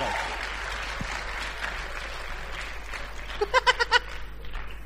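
An audience claps steadily in a dense, continuous wash. Near the end, four short, high, bleating cries ring out in quick succession above the applause.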